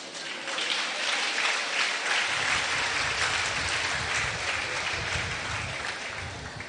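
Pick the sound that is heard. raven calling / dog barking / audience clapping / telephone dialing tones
audience clapping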